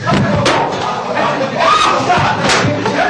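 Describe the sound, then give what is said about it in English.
Loud, chaotic commotion at a December 2008 press conference in Baghdad, Iraq, during President Bush's last visit, as a crowd of voices shouts over one another, broken by a couple of sharp thuds as a journalist hurls his shoes at the US president, one early and one near the end. “Al-Zaidi was arrested moments after hurling his shoes at the US president.”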